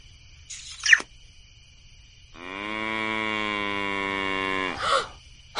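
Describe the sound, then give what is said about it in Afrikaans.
A panicked cow standing on her hind legs lets out one long, loud, strained moo lasting a couple of seconds, after a short shrill squeak and followed by a brief rough burst, against a quiet background with no talking. “Die koei staan op haar agterpote.”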